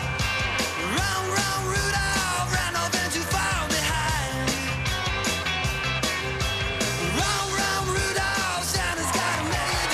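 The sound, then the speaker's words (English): A crowd on both sides of a street yells and whoops continuously for the full ten seconds as a race of runners dressed as Santas passes, a loud, dense wall of overlapping voices with sharp shouts rising out of the steady roar. “People cheer on both sides of the street as the herd continues.”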